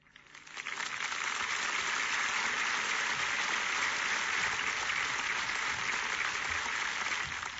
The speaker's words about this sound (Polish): I wy też musieliście robić tak, jak robicie, czyli bić brawo. Nie ma wyjścia.